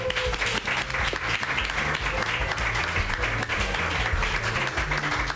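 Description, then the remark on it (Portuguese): An audience applauds a volunteer steadily and loudly for about five seconds, a dense continuous patter of many hands clapping, with a low humming tone underneath and no talking. “Damos un aplauso.”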